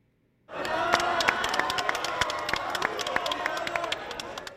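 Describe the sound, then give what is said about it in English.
A crowd cheers loudly and steadily after a brief moment of silence, a dense roar of shouting voices peppered with sharp claps and whoops that holds strong throughout, as Pope Leo XIV emerges from meetings at the headquarters of his religious order, the Augustinians. “Crowds cheered as the new pope emerged from the meetings.”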